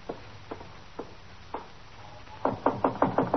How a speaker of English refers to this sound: Cross the room and in that door. All right, thank you. Just knock on the door.